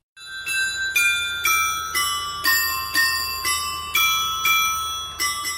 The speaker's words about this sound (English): The clock tower of the old town hall in Žďár nad Sázavou marks every full hour with a different melody.